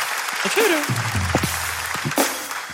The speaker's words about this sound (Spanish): Oye, un fuerte aplauso para el talento de este chico que de verdad.